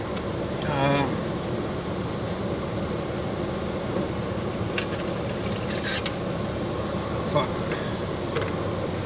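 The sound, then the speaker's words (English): A car heater blows steadily to thaw the car's interior, a constant, fairly loud airy whoosh filling the cabin from start to finish, with a brief higher tonal sound near the beginning. “So I got the heater going, thawing the interior thawing the interior of the car out, and about to go see someone very important.”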